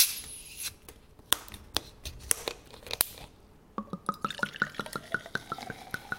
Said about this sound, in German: Also es klingt klar nach einer Flasche, die aufgemacht wird und ein Getränk, das in ein Glas oder in einen Becher reinfließt und es kröselt auch schon so. Es klingt nach Kohlensäure. Das stimmt.